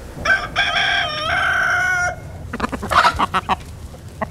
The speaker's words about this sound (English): Chickens clamor for their morning meal on a small farm near River Road.